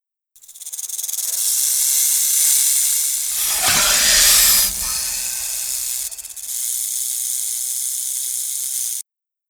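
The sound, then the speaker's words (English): A voice does an impression of Ka, the Disney snake, with a long, steady hiss lasting several seconds, briefly swelling into a rougher, breathier burst midway before settling back into the sustained hiss and cutting off. “That was the snake.”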